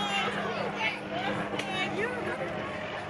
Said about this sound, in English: And you can hear the helicopters there, a little bit of the gas here.